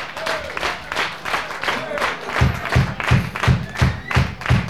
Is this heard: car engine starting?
no